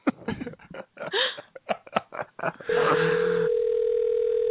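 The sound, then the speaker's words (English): A phone line ringing on an outgoing call: a string of short choppy bursts, then a steady, even ringback tone at a constant mid pitch that holds loudly to the end. “Call us. He's not going to answer.”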